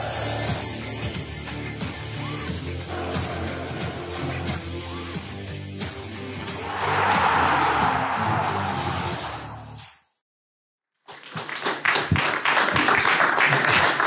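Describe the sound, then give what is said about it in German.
Music plays while a crowd's applause swells into a dense, loud roar, then stops abruptly for a moment of silence before clapping resumes, steady and full. The applause is at the end of a TV show segment. “Der Beitrag ist zu Ende, aber der Applaus galt natürlich nicht uns oder der Sendung, sondern natürlich der sehr erfolgreichen.”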